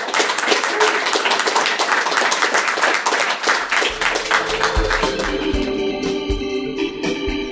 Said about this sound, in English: So please give a round of applause and thank you.